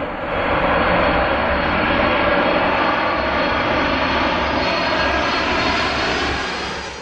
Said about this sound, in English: And still to this day, I mean, if I'm in an airport or there's an air show or anything. Nothing puts me to sleep like a jet engine. Well, let's try it out right now. Let's see. There it is.